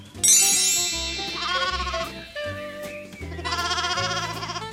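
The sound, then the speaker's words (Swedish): A nearly newborn goat kid, skipping about in a pen, bleats four times in a row, each call a loud, wavering, high-pitched cry lasting about a second, over a low rumble. “Men det är svårt att komma nära och klappa killingen när den skuttar så.”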